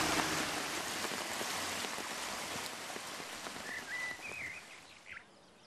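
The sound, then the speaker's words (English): Steady rushing water of a washed-out river in the highlands of Mazandaran province, Iran, pours over stones and mud with a bright, hissing splash throughout, while a few thin bird whistles chirp faintly near the end. No one speaks. “Look, this river has been completely washed away. It's all stone and mud.”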